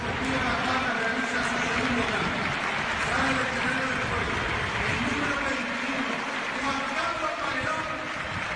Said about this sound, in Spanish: Y se ha retirado y lo hizo en el estadio de Gran Canaria el pasado domingo. Y recibió una ovación, esta que están escuchando ustedes en el minuto 21